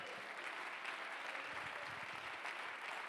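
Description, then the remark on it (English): A large crowd claps steadily in praise, a dense, continuous wash of many hands applauding with no voices standing out. “Come on, clap your hands and give him praise.”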